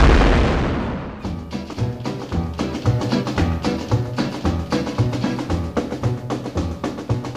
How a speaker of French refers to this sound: Le Big Bang.